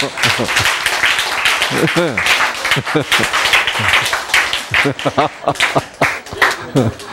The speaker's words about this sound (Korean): 박수!